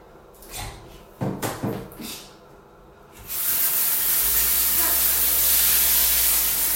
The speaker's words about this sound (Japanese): じゃあちょっとね、汚しちゃったのでシャワーで洗い流したいと思います。